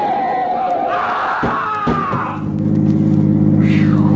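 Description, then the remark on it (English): A speeding car roars past a 10-ton truck parked in front of a highway diner, missing it by an inch, its engine pitch sweeping downward as it passes with a couple of sharp thumps, then settling into a loud, steady engine drone. “Hey, Rebel, ever hit a 10-ton truck at 90 miles an hour?”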